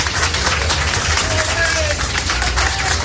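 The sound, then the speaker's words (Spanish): Steady, dense applause from a crowd at a handball match in the municipal pavilion of Pontevedra, for Don Juan Carlos attending his grandson Pablo Urdangarín's game, a continuous wash of many hands clapping mixed with murmuring voices and cheers, loud and unbroken throughout. “Y estos son los aplausos que ayer cosechaba un abuelo que asistía orgulloso al partido de balonmano de su nieto.”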